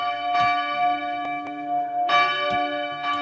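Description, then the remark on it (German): Church bells ring out in a rich, sustained peal, with repeated strikes layering over a long humming resonance. The bells sound full, with no voices present. “Ich würde sagen, wir hören es uns aber nochmal an, die Kirchenglocken.”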